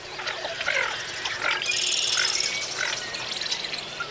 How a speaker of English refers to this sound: And tonight, we are profiling our fourth species of duck, the lesser scop. Like most waterfowl, scop are not at all musical. So let's listen to a short clip we have of lesser scop's grunting here.